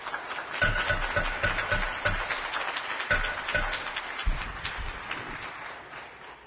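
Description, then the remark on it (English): A crowd in the gallery of a state legislative chamber claps steadily for several seconds during a bill debate, a dense patter of many hands, with scattered sharper claps standing out and the sound tapering slightly toward the end. “The gallery is welcome to hear the debate, but if you continue to clap and disrupt this proceeding, you'll be asked to leave.”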